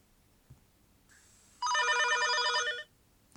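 A telephone rings once in a single sustained burst of harmonic, warbling tones lasting about a second, clear and fairly close, with a faint click and soft tone before it and no voices.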